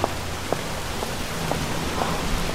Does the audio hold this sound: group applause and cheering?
no